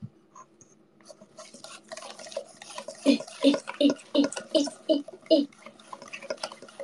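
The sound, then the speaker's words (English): Wet, rhythmic whisking of a milk batter in a bowl: about seven quick, even strokes sloshing through the liquid, following a few seconds of quieter stirring and shuffling sounds. “Oh, you can want to hear the whisk sounds as well.”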